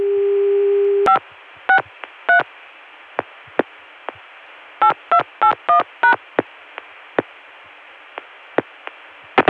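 A steady telephone tone cuts off, then touch-tone digits are dialed: three quick beeps, a few faint clicks, then a rapid run of five more, all over a low line hiss. 563 reaches the Baltimore Centrex, plus 8 for the Connecticut CCSA dial tone.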